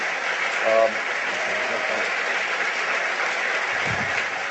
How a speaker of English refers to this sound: No, no, no, no, please. I'm not done enjoying your applause yet.